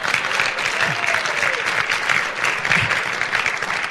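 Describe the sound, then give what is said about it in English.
A crowd claps for a man who has come from the South Island, steadily for several seconds, a dense, even wash of many hands with no break, loud throughout, with faint murmuring underneath. “Yeah, give him a clap.”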